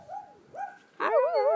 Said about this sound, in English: Oh, dog.